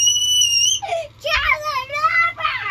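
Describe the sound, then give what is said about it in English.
A young child lets out loud, high-pitched excited squeals, several wavering shrieks in quick succession with brief pauses between them, screaming in excitement because a cat was up there. “Yep, that was her excitement scream because the cat was up there.”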